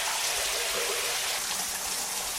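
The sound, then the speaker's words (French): Steady rain pours down in Abidjan in a dense, continuous hiss, with soft low thuds of drops hitting surfaces and no voices. “La paix revient, les enfants jouent et se douchent sous la pluie.”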